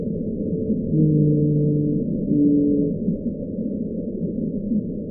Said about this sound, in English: Whales? Louder than that. The lovelorn call of a lonely blue whale.